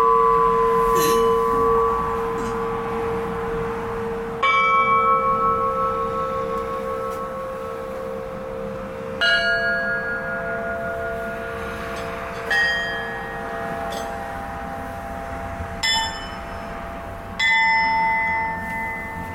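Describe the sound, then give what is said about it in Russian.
Five church bells, hung in a row from largest to smallest in the entrance hall of a house, struck one after another at a slow, uneven pace, each clear, ringing tone lingering and overlapping the next, with no one speaking. “А в прихожей подвешены в ряд от большого к меньшему колокола.”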